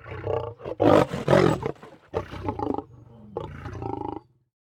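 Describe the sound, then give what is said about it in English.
A male ostrich gives deep, lion-like roars, loud, in three rumbling bursts with short pauses between them before the sound cuts off. No one speaks. “Ostriches can run faster than horses, and the males can roar like lions.”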